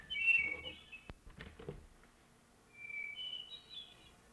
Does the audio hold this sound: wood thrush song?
yes